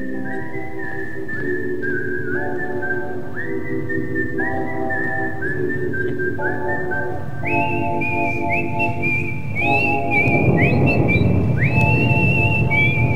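A whistled melody steps between sustained notes over a steady, full instrumental backing, staying fairly loud throughout and swelling a little near the end. No one speaks.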